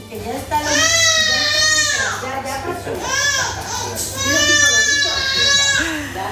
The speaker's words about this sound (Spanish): Con algún que otro llanto, como es normal cuando hay pinchazos. ¡Ay!